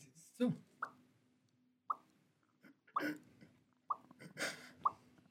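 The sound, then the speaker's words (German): A voice imitates water drops with the mouth as an ASMR sound: a series of short, bright plopping clicks, roughly one per second, each with a quick rising pitch, separated by soft breathy pauses. “Der einzige ASMR-Tropfen, den ich hatte.”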